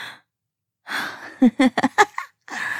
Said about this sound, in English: Oh, God. Oh, the sound of you gasping for air like that, little mouse.